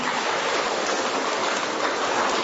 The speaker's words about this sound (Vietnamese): Rồi anh chị em nào ở miền khác lên đây có thể cảm ơn hai mẹ con này một tràng pháo tay thưa anh chị em.